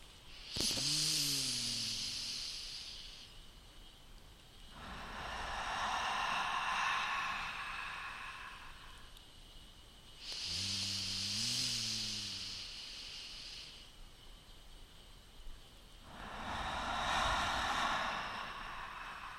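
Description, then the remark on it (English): Slow, deep breaths, alternating a voiced inhale with a long, airy exhale through the mouth, about four full breath sounds with no talking in between. “Let's take 3 deep breaths together and continue breathing.”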